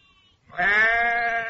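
sheep bleating

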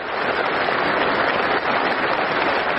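polite applause

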